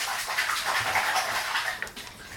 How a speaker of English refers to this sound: I think Grandma's going to wash your hair now. I'll give it a little drop of the water. Whee! Splash it. Just like in the swimming pool. Splash.